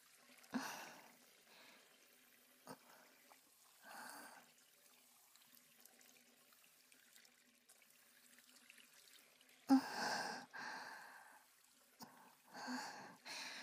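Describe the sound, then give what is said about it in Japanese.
Water splashes and pours in short bursts, with a steady faint trickle between them and a louder rinsing gush near the end, as foam is rinsed off the upper part of the neck. “首の上の方も泡が残らんように、”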